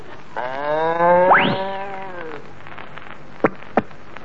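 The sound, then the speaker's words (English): A voice imitates a cow jumping over the moon: a long, droning moo that swoops sharply upward midway like a comic leap, fading out, followed by two quick, sharp knocks. “Now, my first A cow jumping over a moon.”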